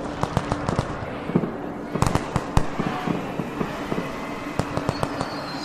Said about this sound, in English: And the city erupts. You can see you're high up above the city. You can see fireworks explode overhead, painting the sky in these blinding, beautiful, terrifying, like, bursts of light.